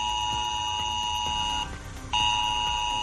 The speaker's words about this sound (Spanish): Es la alerta ante el posible riesgo de inundación por la crecida del río Alberche